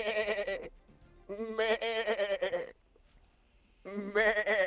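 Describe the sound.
A man's voice imitates a sheep bleating for the summer farm segment of the show Buenos Días Madrid: three long, wavering baa calls separated by short pauses, loud, plaintive and drawn out.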